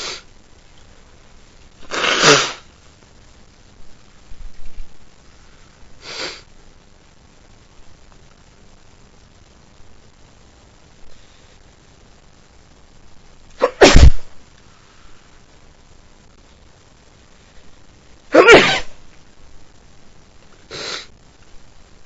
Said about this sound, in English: having another early morning sneeze attack.